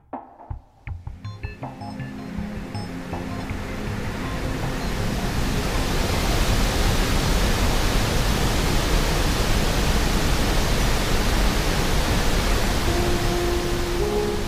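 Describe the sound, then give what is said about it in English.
Roaring ocean waves heard in the rudder stock of the ship Nave Andromeda as it pulls out of port in Lagos swell from a few scattered knocks into a dense, continuous wash of surf that stays loud and steady, with the metallic thrum of the propeller fan underneath. “It was noisy in the rudder stock, between the roaring of the waves and the metallic thrum of the propeller fan.”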